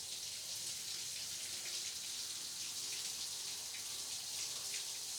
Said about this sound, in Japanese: じゃあ、お腹の方へシャワーを上げていくよ。